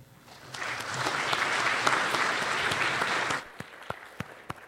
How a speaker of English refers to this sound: So great, so that's the works in progress for today. Let's just do one more round of applause.